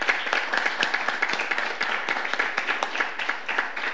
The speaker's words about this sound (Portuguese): Muito obrigado e uma salva de palmas para vocês.